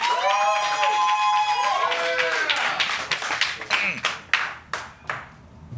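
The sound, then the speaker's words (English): An audience claps and whoops for arriving comedian Emily Heller as she comes down the stairs, high cheering calls riding over dense applause that thins into scattered, separate claps and fades toward the end. “You guys are gonna have to clap more than that. Keep it going for Emily Heller, or she'll be pissed.”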